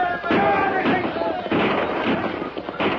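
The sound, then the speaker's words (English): Soldiers fire a rifle volley at outlaws on a trail: about five sharp, booming shots spaced roughly half a second apart, loud and crackling over a constant rumbling, chaotic background. “The outlaws reined up before the deadly fire of the soldiers,”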